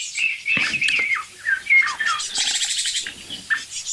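Two Eurasian jays trade a quick series of soft whistles, chirps and a few rasping notes, clear, with no talking over them.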